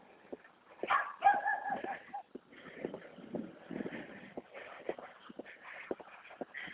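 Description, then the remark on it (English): A few short, quiet dog barks rise early on over a steady bed of shuffling outdoor noise that continues throughout. “Oh, the dogs are out.”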